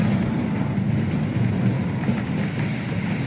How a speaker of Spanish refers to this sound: Es una explosión controlada. Se ha demolido la parte que quedaba en pie del edificio de apartamentos que se derrumbó en Miami hace 12 días.